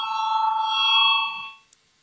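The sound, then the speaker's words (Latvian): An electronic parliamentary voting bell rings with a steady, bright tone for about a second and a half before a vote on a proposal, then fades out, followed by a faint click. No voices. “Lūdzu, zvanu, balsosim par 115. Deputāta Valaini priekšlikumu.”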